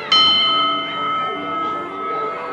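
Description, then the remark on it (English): A bell is struck once at Luna Park, clear, its bright metallic tone ringing on and slowly fading with a steady shimmer for a couple of seconds. “We can ring the bell.”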